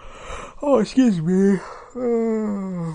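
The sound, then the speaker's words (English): A drawn-out vocal yawn, fairly loud: a breathy intake rising into a sliding, groaning tone that dips, pauses briefly, then trails off in a long, steady sigh. “I'm yawning again.”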